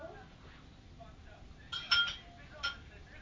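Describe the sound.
A few sharp metallic clinks of dishes and cutlery, bunched together and then one more shortly after, with faint voices murmuring underneath.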